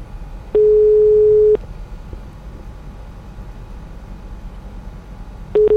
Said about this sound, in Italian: Ma sì, proviamo a chiamarlo. Allora. Squilla.